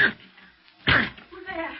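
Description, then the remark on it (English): Two heavy blows strike a flimsy locked door about a second apart, sharp splintering thuds as it is forced open, followed by a brief voice. “It's locked. But the door's flimsy.”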